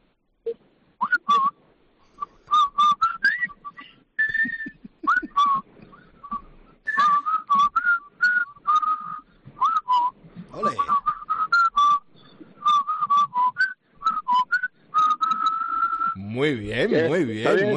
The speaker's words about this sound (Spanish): ¿Sabríais silbarme los dos a la vez la sintonía del puente sobre el río Kwai?